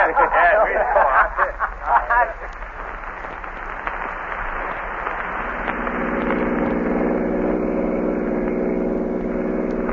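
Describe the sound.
A car engine drones steadily as it drives along a road, a continuous low hum that swells fuller and more tonal partway through, with brief muffled voice sounds at the very start.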